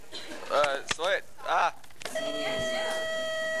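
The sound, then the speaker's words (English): A doorbell rings once, a steady, clear electronic tone that holds on, coming right after a few short voice-like sounds. “That's the second bell.”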